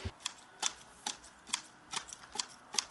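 Garden shears snip through grass in a steady rhythm as a worker trims the lawn at the Herdade da Figueirinha estate, about seven crisp cuts at even intervals, fairly quiet, with no voices.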